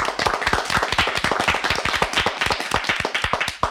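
A crowd claps steadily in welcome, dense overlapping hand claps forming a loud, continuous burst of applause with no voices.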